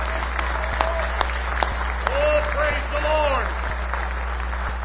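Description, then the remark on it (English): An audience claps hands together in praise, a dense, sustained round of applause, with voices calling out and whooping over the clapping midway through. “Give him one more hand clap of praise.”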